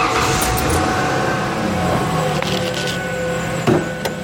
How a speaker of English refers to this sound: but because there's a really bad, like, high-pitched sound, like, wee, wee, wee, wee, wee. I'm going to start up this truck so you can hear it.